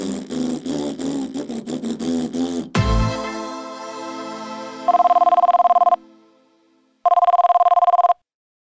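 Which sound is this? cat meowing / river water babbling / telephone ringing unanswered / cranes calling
telephone ringing unanswered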